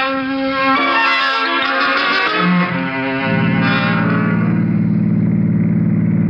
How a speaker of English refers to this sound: You will get that gun, and we will get in the car, and we will drive over the South Side Bridge, and you will throw that gun in the water.